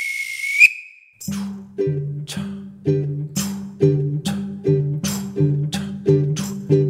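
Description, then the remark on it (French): A toy train gives a short, shrill high whistle at departure, then a brief burst of hiss, followed by a steady, rhythmic chugging beat with low tonal pulses repeating evenly. “Et attention, la fermeture automatique des portes. Attention au départ.”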